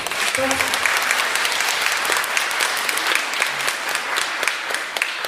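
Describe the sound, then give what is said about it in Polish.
Steady, dense applause from an audience at a school event, given for the school secretary, many hands clapping continuously and evenly for several seconds without a break, with faint crowd murmur underneath. “Ogromne brawa dla pani.”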